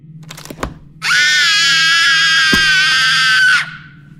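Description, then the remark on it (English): A person screams out of an open window at full volume in one long, sustained shriek lasting a few seconds, loud, after a brief moment of quiet background rumble and a couple of small knocks. “Open the window and scream as loud as you can.”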